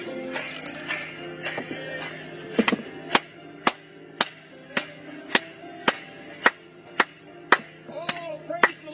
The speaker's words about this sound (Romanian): Haideți să o aplaudăm în dimineața aceasta pentru el.